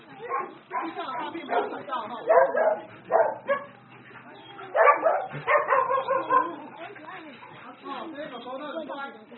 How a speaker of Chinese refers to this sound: 这是黄金猎犬，米格鲁，看到很多人嫌弃，他们嫌他们有时候太小太大只了，他有时候长这么大家里关不下了。